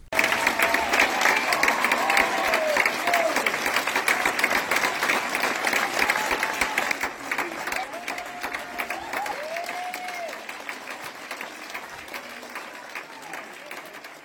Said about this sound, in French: Je vous demande d'accueillir sous un tonnerre d'applaudissements